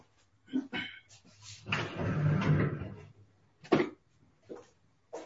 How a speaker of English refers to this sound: So I just want to open my door here. It's a little bit warm. Excuse me a second.